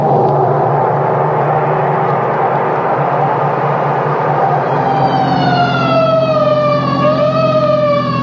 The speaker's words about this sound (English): The alarm said Pine Street, didn't it? Oh, yes, yes, of course. So why this siren? The only traffic out here is on horseback.